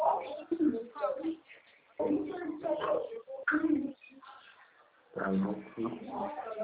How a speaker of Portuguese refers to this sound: Mas é pomba, é.